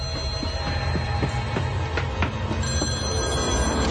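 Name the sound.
telephone ringing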